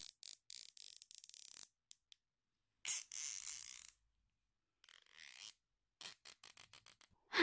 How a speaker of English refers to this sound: There. That's a lot better. I'm sorry if it's too tight on your wrists. I know zip ties can't be comfortable.